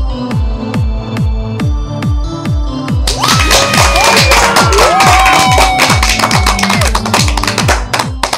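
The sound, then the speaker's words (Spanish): A lively crowd bursts into cheering, clapping and whistles a few seconds in, loud and sustained over a steady, thumping rhythmic beat that plays throughout. “Esa energía positiva y esos aplausos damos inicio a este episodio número 97 del programa Te Invito un Café.”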